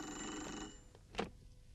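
A telephone bell rings with a dense, metallic trill that fills the first half, then cuts off, followed by a short sharp click and faint room noise.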